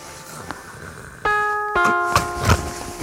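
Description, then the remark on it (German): A doorbell chimes a clear two-note ding-dong at 4:30 at night, its tones ringing on and overlapping, fairly loud against a quiet background with a couple of faint knocks. “Wer klingelt denn da, Schatz?”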